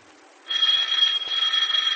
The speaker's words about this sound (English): the doorbell rings in her home.